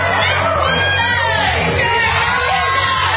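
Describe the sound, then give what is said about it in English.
A loud, dense audience roars continuously, screaming out contestants' names, many voices shouting and cheering over one another with excited whoops, filling the space without a break. “We're screaming out names.”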